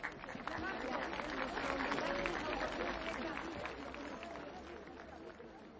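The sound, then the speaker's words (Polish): An audience claps steadily for several seconds for performers introduced to present texts by Cardinal Stefan Wyszyński and a psalm by Cyprian Kamil Norwid, a dense, even wash of many hands that stays full throughout and eases slightly toward the end. “Brawa dla nich.”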